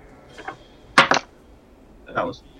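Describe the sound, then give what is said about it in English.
Dice are dropped and clatter on a hard surface while rolling for a perception check in a tabletop role-playing game: a light tap, then a loud burst of quick knocks as they tumble, and a final softer rattle. Fairly quiet. “I dropped my dice wrong and it rolled in that.”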